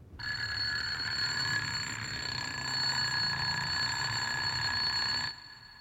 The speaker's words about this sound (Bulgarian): Звънецът силно извънява.